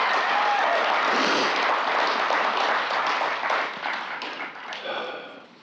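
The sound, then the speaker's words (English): A crowd claps steadily in a dense, crackling wash of applause that holds strong for several seconds, then begins to thin and fade toward the end, applauding the committee that planned the event. “And they should be applauded.”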